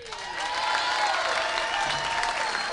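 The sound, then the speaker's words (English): Steady, sustained applause from a large crowd, a dense wash of many hands clapping at an even loudness throughout, with faint cheering mixed in and no clear speech. “Now, help us again here, ladies and gentlemen, by applause.”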